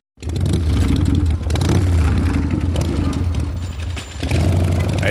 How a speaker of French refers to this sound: Eh, vous l'entendez la moto? Et ça fait 5000 fois. 5000 fois que vous entendez cette moto, et oui, depuis 25 ans, à peu près 5000 fois.